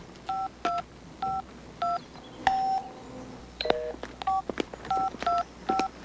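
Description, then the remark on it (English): A rapid series of telephone keypad dialing tones, a dozen or so short two-note beeps in an uneven rhythm, clear with faint clicks between presses and no talking. “You want to call AAA?”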